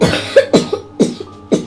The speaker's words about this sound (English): that cough's really appalling.